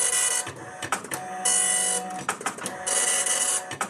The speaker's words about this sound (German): Ich liebe ja diesen alten, neuen Nadeldrucker.